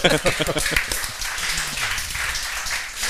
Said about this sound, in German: Bravo, dafür schon mal einen Applaus.